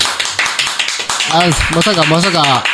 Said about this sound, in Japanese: まさかね、ライブのステージでこんな拍手をもらえるとはね、思ってもみませんでしたね。